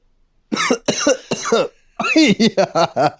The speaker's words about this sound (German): Da muss er erstmal husten da. Erstmal schön abgehustet.